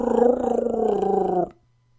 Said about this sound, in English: I'm afraid we're going to be boarded, Chewie. The Wookiee gave a growl.